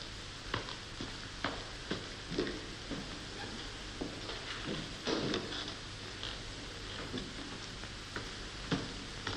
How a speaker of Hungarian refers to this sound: Bezártam az ajtót. 9 után ide senki be nem teheti a lábát.